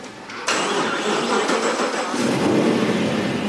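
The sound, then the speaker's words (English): A car engine cranks and catches after a brief pause, then runs loud with a rough, steady roar that swells slightly as it revs. “Which car you want to drive?”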